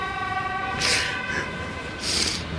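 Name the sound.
ambulance siren passing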